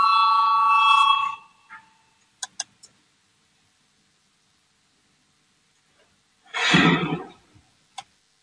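A voting bell rings out in a parliament chamber before a vote on proposal 201 from deputy Valainis, a bright electronic tone for about a second, followed by a few sharp clicks and a short burst of rustling noise.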